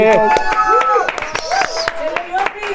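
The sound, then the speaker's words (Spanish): Applause welcoming Leopi, a dating coach and bestselling author, as a guest: loud, scattered hand claps at an uneven rhythm, with voices speaking and calling out over them the whole time. “Un aplauso para Leopi.”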